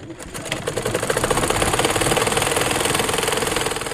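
A sewing machine runs steadily with a rapid, even mechanical clatter, rising from a softer start to a sustained buzzing rhythm that stays loud throughout, with no voices.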